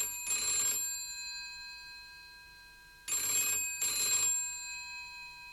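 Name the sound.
telephone ringing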